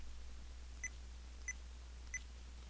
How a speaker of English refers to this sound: And since I don't remember which folder I'm in, I'm just going to press the play button. You'll notice when I press stop, it gave a double beep.